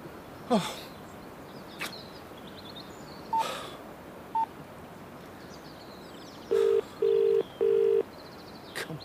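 A few clicks and two short single beeps, like buttons being pressed on a phone, then three evenly spaced electronic ringing tones. There is no talking and the background is quiet.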